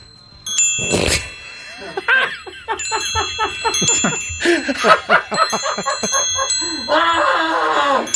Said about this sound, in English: Tintinabulation. The sound of bells or chimes.